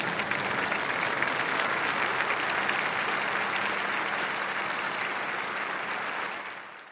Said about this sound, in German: Nach dem Segen klang der Rosenkranz mit spontanen Papa Francesco-Rufen und Applaus der Anwesenden aus.